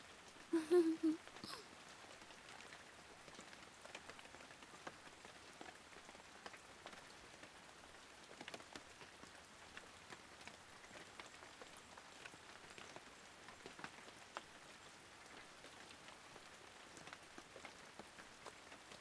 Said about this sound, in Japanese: 雨、止まないね。でも僕、雨は嫌いじゃないよ。